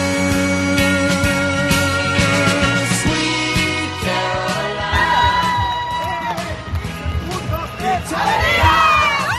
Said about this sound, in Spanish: sin los gritos de las jugadoras de Perfumerías Avenida después de haber conseguido su 10ª Copa de la Reina.